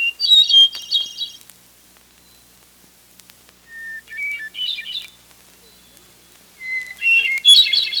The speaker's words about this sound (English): Hermit thrushes began returning to the Northland a couple of weeks ago. Like the winter wren, the hermit thrush lives in moist coniferous woodlands. It's also called the swamp angel for this.